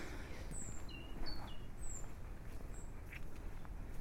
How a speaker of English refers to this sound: I'm always amazed in winter by the amount of birdsong you can hear. That little trilling robin and the laughing magpie.